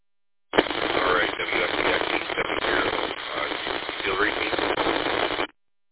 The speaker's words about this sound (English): Okay, that's the Flint repeater. A little bit scratchy, readable, understandable, but a little bit of static in there.